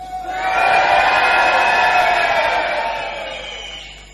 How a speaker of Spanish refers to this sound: Podremos hacer una experiencia acústica vamos a gritar solamente los de arriba. Sí. Y a la voz de Aura. Aura.